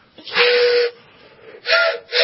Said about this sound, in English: Is that a recorder? Or no, that's a train whistle. It's a train whistle.